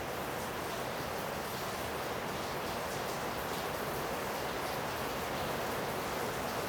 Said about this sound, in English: We might say that God has made a decision to pour rain down upon us now in torrents, soaking the ground and giving rise to the mystery of life. Here on the Feast of the Annunciation, it has changed the mood of everything.